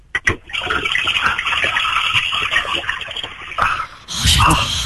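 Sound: toilet flushing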